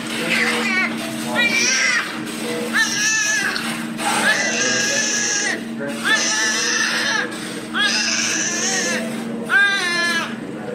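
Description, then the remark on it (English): A newborn baby cries just after birth, heard through the door of the parents' room, in a steady series of loud, high-pitched wails, about eight bursts separated by brief gasping pauses, with a faint low hum underneath. “And as we were waiting to go into their room through the door, you could hear the baby crying.”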